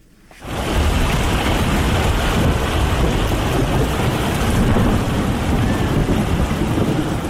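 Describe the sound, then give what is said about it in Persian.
Heavy rain pours down in a steady, loud roar, with low rumbles of thunder rolling beneath it. It swells in within the first half second and then holds constant, with no voices. “تغییرات اقلیمی در جهان، بارانهای شدید و سیلابهای غیر مترقبه را در سراسر جهان به شمول افغانستان در قبال داشته و آزمونهای موجود در این کشور را بیشتر کرده است.”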